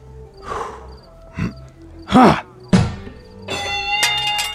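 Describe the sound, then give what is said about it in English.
At a carnival, a mallet thumps down on a strength-tester with a few dull thuds and one sharp, heavy whack that breaks the bell, then a bright metallic bell rings out in sustained, shimmering high tones. “It's not a trip to the carnival without hitting something with a mallet.”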